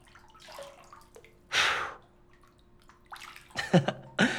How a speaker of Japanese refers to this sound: 泡ついちゃったね。あ、ごめんごめん。泡を吹いて飛ばすの映画とかでよくあるじゃない。一度真似してみたくて。